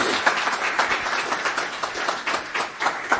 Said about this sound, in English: Okay. Well, let's give Matt a big round of applause.